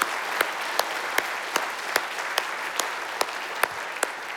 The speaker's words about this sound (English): By the way, let's give our volunteers a big round of applause, all who served this week. Thank you.